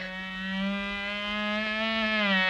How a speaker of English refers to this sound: it's one of those military-minded mosquitoes, and he's making right for Crazy Quilt